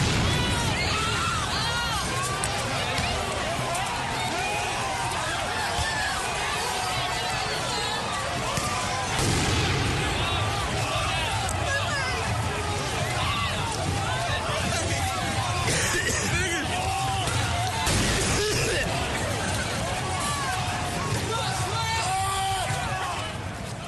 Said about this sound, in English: What you heard was just one example of the protests that have been taking place in Washington over the past 3 days.